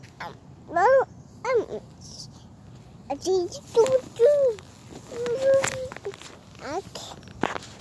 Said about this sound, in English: See the birds? You hear the birds? Birds.